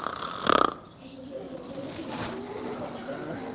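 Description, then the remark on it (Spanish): A voice imitates a child snoring, with a loud rasping snort near the start followed by softer, breathy snoring sounds that continue for a few seconds. “Roncando un poco, roncando como niño, ¿no?”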